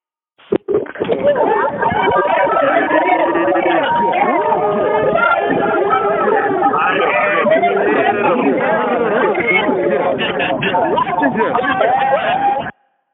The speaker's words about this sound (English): If you're excited to live, I want to hear you scream into the phone as I unmute the lines right now.